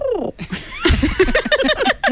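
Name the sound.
cat yowling sound effect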